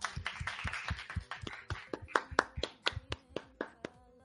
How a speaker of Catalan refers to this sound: Un aplaudiment faria jo.